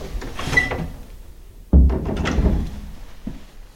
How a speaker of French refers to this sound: Tu fermes la porte